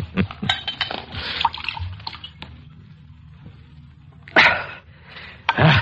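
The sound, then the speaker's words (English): Glassy clinks and a few sharp clicks as a wine bottle is handled and opened, followed by wine splashing and gurgling into a glass in short pours, with no one talking. “Help me open the bottle.”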